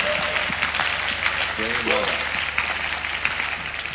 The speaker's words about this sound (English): Wow. They are still not clapping. Hey, I think the men are even clapping more than the women.